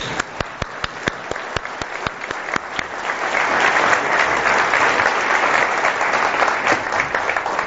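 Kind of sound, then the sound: crowd, audience applauding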